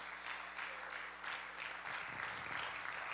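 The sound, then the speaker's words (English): An audience claps their hands for the Lord, a dense, steady wash of many overlapping claps sustained throughout at an even, fairly loud level. “Would you just clap your hands of the Lord one more time?”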